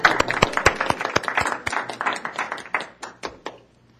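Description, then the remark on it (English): A short round of scattered clapping from a small group at a Planning Commission meeting, honoring a founding council member, quick uneven claps that build briefly and then thin out and stop after a few seconds. “May we clap?”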